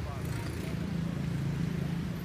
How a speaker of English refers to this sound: Maybe this is more your speed. You know, the sounds of the city.